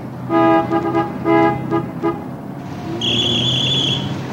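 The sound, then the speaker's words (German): A car horn honks at pedestrians crossing at an intersection, in a quick series of short, loud blasts over a steady traffic rumble, followed by a longer, higher-pitched sustained tone. “Sie haben eben gehupt, mein Herr.”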